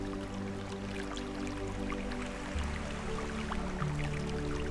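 A small brook splashes and trickles steadily over round, light-coloured stones as it flows into the sea, a continuous gentle babble with scattered droplet sounds, set against soft sustained low tones in the background.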